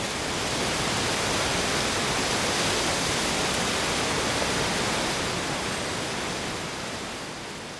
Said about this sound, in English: And I make my way along the shore of Loch Lomond here, and I'm going through oak and holly trees, birch, alder, rowan. The undergrowth is covered in bracken, which is changing colour. You just get the sound of the wind and foliage.